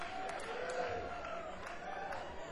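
An audience claps steadily and continuously for a guest on the set, a dense wash of applause mixed with crowd cheering and a few higher whoops rising over it.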